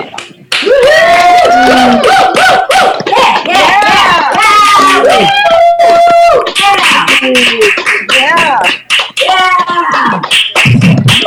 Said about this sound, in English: And I don't know whether this is a good idea, but I'm just going to quickly, for about 10 seconds, unmute everyone, just so that we can give all those people a collective round of applause.